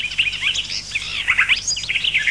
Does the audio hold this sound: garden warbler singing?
yes